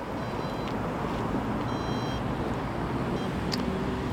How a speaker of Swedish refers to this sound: Buss som piper.